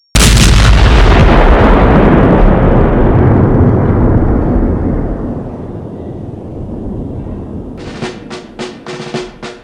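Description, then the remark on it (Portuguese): A massive explosion from a falling nuclear capsule erupts at once, destroying everything around, then rolls into a long, deep rumble that slowly fades, with a few sharp crackling bursts near the end. No one speaks. “O som agudo da queda da cápsula nuclear vai ganhando volume e finalmente ouvimos uma enorme explosão que destrói tudo ao redor.”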